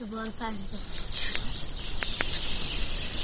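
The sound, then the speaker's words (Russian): A dense outdoor chorus of high, chirping morning birdsong over a steady hiss, with a few sharper calls standing out, after a brief low voice at the start. “Когда мы проснулись, то услышали пение птиц.”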